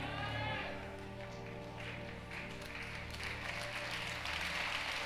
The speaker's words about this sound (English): Increase that clap offering.